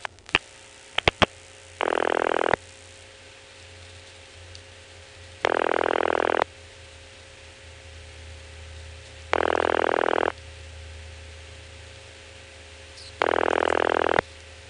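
A short cluster of sharp telephone exchange clicks as the last two digits of a number to a hospital are dialed, then a ringback tone sounding four times in even bursts a few seconds apart, with a low line hum in between.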